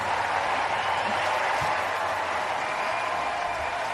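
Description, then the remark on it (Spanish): A Wimbledon tennis crowd gives Carla Suárez a sustained ovation after her elimination by the world number one, a dense, steady wash of clapping that holds at full strength for the whole stretch without letting up. No one speaks over it. “Es sonido de nuestros compañeros de Movistar, es la ovación que se ha llevado Carla Suárez tras ser eliminada en Wimbledon, ha caído ante la número uno del mundo.”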